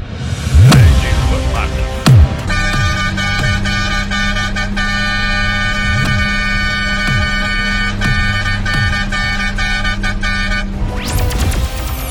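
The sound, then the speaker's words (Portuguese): A loud air horn blares in one long, steady blast of about eight seconds, preceded by two quick rising bursts, then cuts off abruptly. “Sai da frente e não se assusta com a buzina, porque aqui a pressão é forte.”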